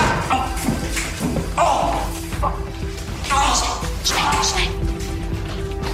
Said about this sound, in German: sie stülpt ihm den Eimer über den Kopf und schubst ihn kräftig, sodass er rückwärts über die Holzbank in der Mitte fällt und dabei mit dem Eimerkopf an den gegenüberliegenden Spind knallt.